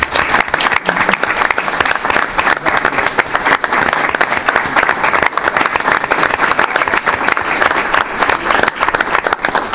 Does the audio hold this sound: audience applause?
yes